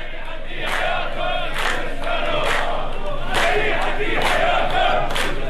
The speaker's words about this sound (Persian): کارگران شرکت نیشکر هفت‌تپه روز چهارشنبه و برای 24مین روز همزمان با ادامه اعتصاب خود در خیابان‌های شهر شوش راهپیمایی کردند. کارگران در شعارهای خود ضمن تأکید بر لزوم لغو مالکیت خصوصی شرکت نیشکر هفت‌تپه از غلامرضا شریعتی استاندار خوزستان انتقاد کردند.